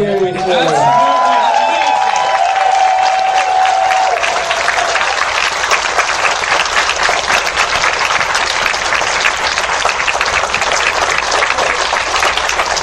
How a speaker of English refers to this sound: I want to honestly give the biggest, loudest round of applause to our hotel staff.